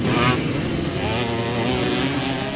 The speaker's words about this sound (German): Gerade so knapp über der Grasnarbe wird hier die Kurve genommen. Ein Mofa nach dem anderen braust vorbei und auch der Fahrer auf der giftgrünen Zündapp mit dem Fuchsschwanz hinten dran legt sich voll rein.